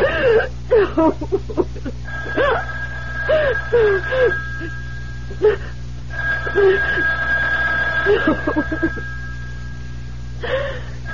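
telephone ringing

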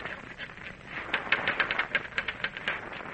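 typewriter typing

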